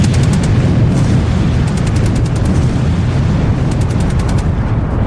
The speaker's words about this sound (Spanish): Y ahora siempre con la supervisión de un adulto, empezad a pegar tiros a todo lo que se venía.